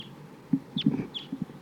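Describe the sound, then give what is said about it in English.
Flight calls of a wild red crossbill type 2 flying with a flock: three short, sharp, high-pitched chips spaced irregularly, mixed with a series of low, soft clucking thumps underneath. “That was wild type 2.”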